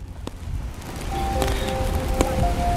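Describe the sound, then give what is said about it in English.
Rain hisses steadily on a city street in downtown Brooklyn, New York City, with low traffic rumble underneath, a few sharp clicks, and faint high tones drifting through. No one speaks. “Were you in the rain?”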